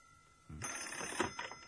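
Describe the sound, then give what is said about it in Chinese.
A telephone bell rings again in a continuous bright, rattling burst that starts abruptly and keeps going, clear, with no voices. “他刚要转身往回走，那电话铃又响了起来。”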